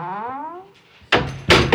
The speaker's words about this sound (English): One day, Kay put Arthur in the dungeon and shut the door.